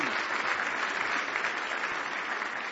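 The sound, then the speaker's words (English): A church audience claps hands in praise of Jesus Christ one morning, a dense, even roar of many overlapping claps holding at a constant, fairly loud level throughout with no voices standing out. “Give Jesus Christ a big hand clap of praise this morning.”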